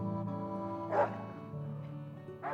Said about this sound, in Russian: Оставь в покое собаку.